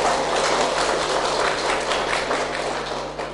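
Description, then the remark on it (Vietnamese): A crowd bursts into steady, dense applause, many hands clapping at once in a sustained wash that holds strong before easing slightly near the end, with no voices over it. “Xin cho một tràng pháo tay.”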